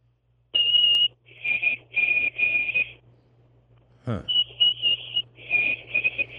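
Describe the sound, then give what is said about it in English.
Someone whistles an imitation of a white-throated sparrow's song: a long, clear high note followed by slightly lower drawn-out notes, then after a pause and a soft thump, a second similar whistled phrase. “that's a very good imitation of a song. Difference between a call and a song, but you're doing the song of what is clearly a white-throated sparrow.”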